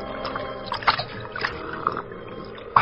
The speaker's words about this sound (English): The time, late evening. Place, a bank of the Salinas River in California. Two men scramble down the bank to the water's edge, and the larger of the two, an ungainly giant of a man, throws himself at full length and greedily drinks from the river.